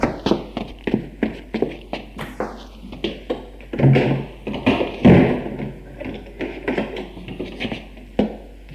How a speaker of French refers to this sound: Puis, j'entendis des pas.